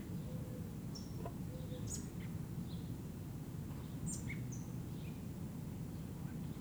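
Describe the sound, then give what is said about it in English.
A fairly large begging robin chick, about 6 meters up in an oak tree at the southeast corner of LSB, recorded August 1, 1978 at 6:15 p.m., gives scattered, brief high-pitched chirps and thin calls at irregular intervals, fairly faint above a constant low rumbling background noise. “I think it's the chick that's doing all those sounds, but it's difficult to see.”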